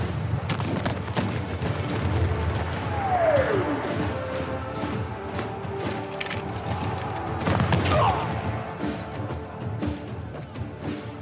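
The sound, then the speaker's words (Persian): Cannon fire from gunpowder-fired cannons in revolutionary France at war booms repeatedly through a dense, continuous din of battle, with two falling, whistling tones cutting through the roar partway in. The blasts stay loud and overlapping throughout. “فرانسه انقلابی در جنگ غرق شده بود و به توپ نیاز داشت. توپی که با جرقه بارود شعله ور می‌شد.”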